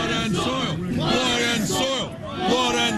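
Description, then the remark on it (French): A crowd of militants in the United States shouts slogans together, including "Blood and soil", many raised voices blending into a loud, rhythmic chant that swells and dips briefly before rising again. “Le sang et la terre, hurlent également les militants.”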